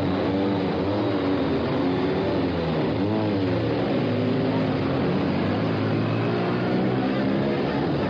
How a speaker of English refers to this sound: And there they go for the last race of the season and the last race of Silverstone at the British Touring Car Championship 1997.